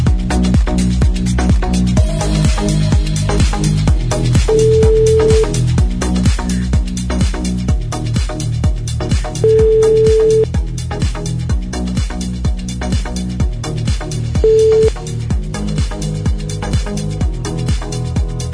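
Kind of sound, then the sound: signal or alarm, outgoing telephone call ringing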